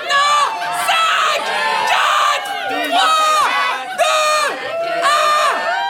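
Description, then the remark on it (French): A group of revelers shouts together in loud, rowdy bursts, rising and falling roughly every second or so, many voices overlapping with whooping, chant-like cries. “On peut d'abord entendre le bout en train, qui ne se déplace qu'en groupe.”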